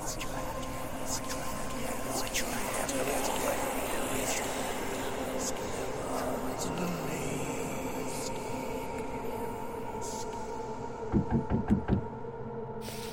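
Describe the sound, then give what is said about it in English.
A quick run of about five sharp, distinct knocks on a door comes near the end, after a long stretch of steady low hum and faint background noise. “The sound of knocking drew me out of my thoughts.”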